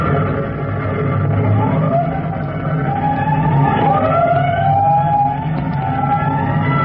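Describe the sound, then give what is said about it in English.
A fire engine siren wails in rising and falling sweeps over the steady low rumble of a heavy engine, loud and continuous throughout, as the engine responds to a five-alarm fire. “A 5 alarm fire. 5 bells. Move in immediately. That's it. Let's roll.”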